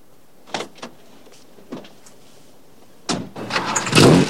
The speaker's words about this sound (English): He drives away, first reaching over and pressing a button to shut the passenger door.